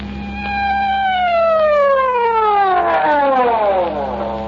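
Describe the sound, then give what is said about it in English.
An emergency vehicle's loud siren wails steadily, its tone sliding downward and then rising again, with a low engine hum underneath and no talking. “Well, why the siren?”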